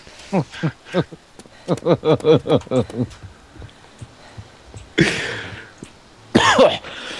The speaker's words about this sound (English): Don't ever smoke cigarettes. Yeah. Make you cough like an old man.